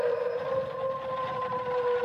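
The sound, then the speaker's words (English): Wolves howl in a long, steady, mournful wail, their pitch holding nearly level for about two seconds at an even, moderate loudness, with no voices alongside. “It was the howling of wolves.”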